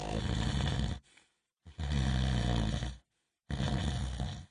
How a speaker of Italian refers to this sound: Solo sul far della sera scivolai nel mondo dei sogni e iniziai a ronfare.